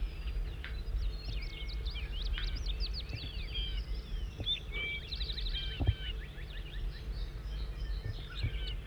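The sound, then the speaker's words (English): Bird 5-9, recorded in song, sings in rapid, high-pitched phrases of chirps and warbled notes, repeating over a steady low rumble of background noise, with a brief thump near the middle. “Start recording bird 5-9 in song.”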